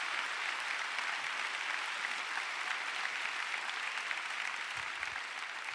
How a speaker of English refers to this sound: Come on, let's give the Lord a big clap. Hallelujah.